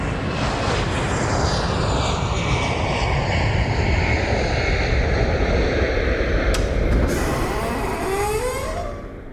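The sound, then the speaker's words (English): A loud jet airplane sound effect roars past, its engine noise sweeping downward in pitch as it flies by, with a sharp burst near the end before the rumble begins to fade. “I'm going to put us on the Sip Sudden Smoke Jet to go to the next place.”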